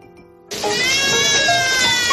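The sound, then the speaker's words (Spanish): A baby bursts into a loud, continuous wailing cry after a brief quiet moment, the strained, high-pitched howl held steady without pause and with no talking. “Llora. Estará sucia.”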